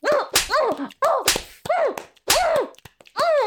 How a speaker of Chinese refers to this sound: 主人，操我，打我屁股！